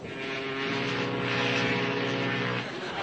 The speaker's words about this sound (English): How do we know there are ships out there? Because they toot their whistles. Listen.